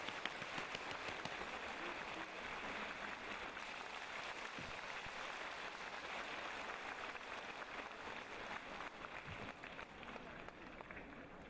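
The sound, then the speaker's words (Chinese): A large audience applauds to welcome Lu Junhong in a long, steady burst of dense, crackling clapping that holds at an even, loud level for about eleven seconds without fading. “现在让我们用最热烈的掌声恭请我们尊敬的卢军宏台长为我们当场看图腾。”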